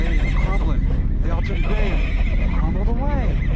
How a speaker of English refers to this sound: I never heard horses scream like that. Make them stop!